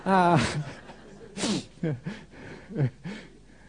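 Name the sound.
person coughing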